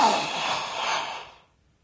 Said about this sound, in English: … ended his sentence in a gasp